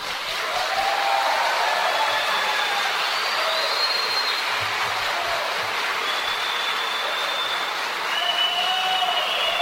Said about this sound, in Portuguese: E em novembro, o prefeito eleito, Ulisses Maia, retornou à Câmara e foi aplaudido de pé pela população que lotou as galerias.